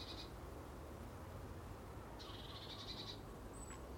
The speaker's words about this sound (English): But I'll swap that for the sound of seagulls and oyster catchers and curlews and peewees.